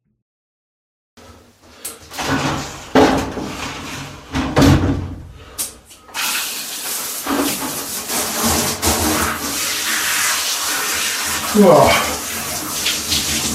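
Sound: shower water running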